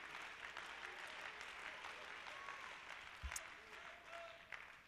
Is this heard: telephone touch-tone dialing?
no